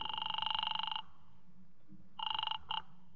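A telephone rings on the line after a dialed call to Weinberg's Delicatessen, in buzzy, warbling bursts: one ring lasting about a second, a pause, then a shorter ring that breaks off abruptly. No voices are heard.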